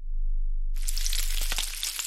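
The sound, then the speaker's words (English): Johnsonville sausage strips sizzle in a hot pan, sounding like frying bacon: a dense crackling hiss with sharp pops that starts abruptly after a brief near-silent moment and continues steadily. “Hear that? Sounds like sizzling bacon, right? Trust me, it looks like bacon too. Only it's not. It's Johnsonville Sausage Strips.”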